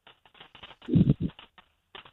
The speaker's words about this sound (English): You type it on your typewriter